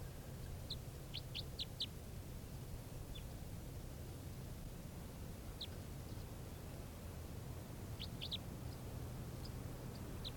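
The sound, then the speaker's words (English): A bird gives short, sharp high chirps in scattered clusters of two to four, separated by pauses, over a steady hiss and low hum; the calls are a very low-pitch type 3 variant. No one speaks. “This is the bird.”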